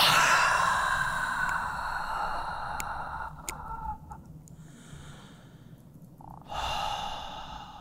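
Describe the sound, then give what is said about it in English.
A long, audible breath out after an inhaled and held breath with the body tensed, loud at first, tapering off, followed by a pause and then another breathy exhale. No talking. “Inhale and hold your breath. Make your body tight, tight, tight, tight. Contract your perineum. Hold it, hold it, hold it. And exhale.”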